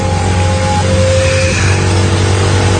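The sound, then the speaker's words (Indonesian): A loud motorcycle engine revs and accelerates steadily, its droning pitch shifting upward in steps over a few seconds with no one speaking, as it is ridden through the cold night wind from Setiabudi to Cimahi. “Cap gas motor menerpa angin malam yang”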